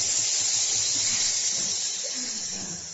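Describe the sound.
A loud, sustained hiss from many voices at once, an audience imitating snakes together in a dense, steady wash of sound that fades slightly toward the end.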